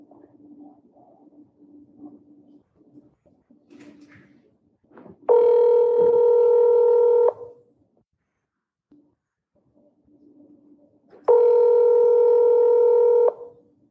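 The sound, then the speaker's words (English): Two long, steady ringback tones of an outgoing phone call to Chad Daybell's phone number, each about two seconds, separated by a pause, heard through a phone line with faint low background hum and quiet line noise between rings. Recorded December 8th at 3:43 p.m. “So here goes the phone call.”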